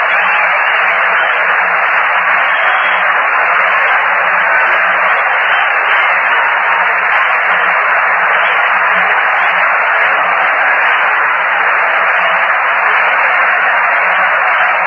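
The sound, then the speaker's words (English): A dense, steady roar of applause from a big Friday night crowd at a baseball game at the Polo Grounds, heard through a thin, band-limited old radio broadcast. It holds at an even level for the whole stretch with no one talking. “Applause of the big Friday night crowd here at the Polo Grounds has begun.”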